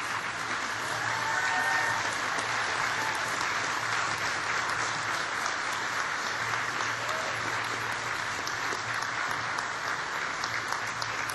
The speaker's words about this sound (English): So, class of 2015, please stand up. All of you, please stand up. Look around and give a big round of applause for all the people who have supported you.